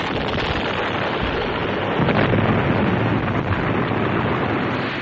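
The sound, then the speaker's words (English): A loud, fiery explosion roars continuously for several seconds, a dense rumbling blast with crackling texture that swells slightly midway, with no voices. “He was aware only of the fire, reddish-yellow, roiling out from under the beast.”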